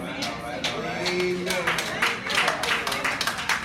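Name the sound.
audience clapping hands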